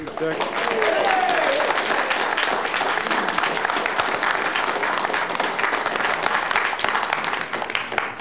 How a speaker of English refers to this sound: Okay, at the council meetings, we have a decorum and it does not include the applause or booing or any other signs.